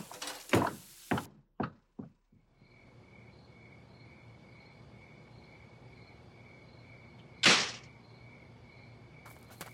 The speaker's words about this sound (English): Coming through. There's the back door.